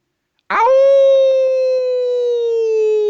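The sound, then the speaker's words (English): A person imitates an old dog's howl with one long, loud, steady note that begins abruptly and holds a fairly high pitch, sagging slightly toward the end, with no other talking. “But before we go, of course, we ask all of our guests to give us their best old dog howl.”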